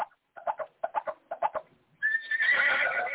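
A horse neigh played from a coffin-shaped sound box, loud, starting with a series of quick stuttering snorts before breaking into a long, high, shrill whinny that stays strong to the end.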